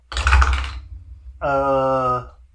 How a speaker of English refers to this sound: Oh, I have to roll dice first, don't I?